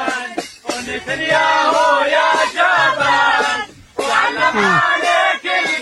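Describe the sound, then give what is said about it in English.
A crowd of many civilians cheering and shouting together, loud, with overlapping yells rising and falling continuously and a brief dip partway through. “Now remember that all of the video footage, there were civilians that were cheering.”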